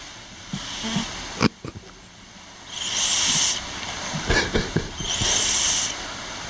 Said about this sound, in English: I like to record my cat snoring, so this is what you get